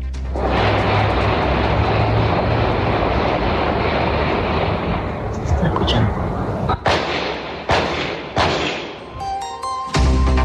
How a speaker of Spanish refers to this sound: Pasemos ahora a escuchar un ambiente de estos disparos.